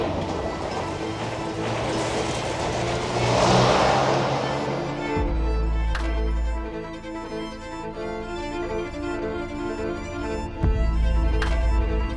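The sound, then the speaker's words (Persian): A car engine swells loudly as a man gets into his car and drives off at speed, roaring up within the first few seconds, then fades into a steady lower hum beneath sustained tonal music. “با سرعت حرکت میکنه.”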